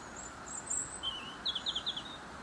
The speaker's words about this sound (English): As we continue up the Seven Bridges Trail, not only have we heard our first pheasant, we're also being serenaded by a robin, which is perched in a little alder tree on my right hand side.